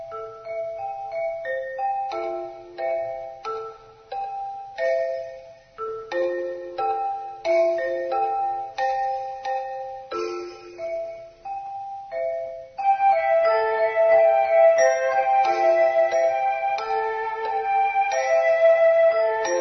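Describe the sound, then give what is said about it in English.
A melodic run of bright chime-like bell notes, synced to where crows sit on a wire, each ringing out and fading, plays over soft synthesizer tones; partway through, a fuller, sustained synth layer joins and the music grows louder. “I don't think that the birds had, like, the synthesizer, like, no, but the little, the choral bells part, you know, synced up to where these birds were sitting on a wire.”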